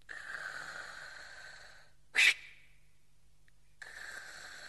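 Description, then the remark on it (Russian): A patient breathes on a doctor's command during an examination: a long, wheezy, whistling breath, then a sharp snort-like burst and a pause before another raspy breath begins. Fairly loud, with no talking. “Вы ведь прекрасно знаете, что от вас требуется. Дышите.”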